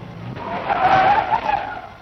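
A car brakes hard, its tires letting out a loud, wavering screech that swells over about two seconds as it skids toward a stop at an ambush on its way from Lyon to the Vercors maquis, France, with no voices present.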